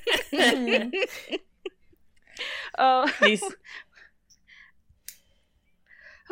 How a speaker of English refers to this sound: Is it time to yawn again?